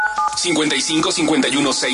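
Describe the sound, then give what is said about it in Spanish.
A quick burst of telephone dialing tones as the radio station 89.7 FM places a call to a listener, a few short steady beeps at the very start, quickly overtaken by people talking over background sound. “Vámonos, ahora sí, esta llamada telefónica.”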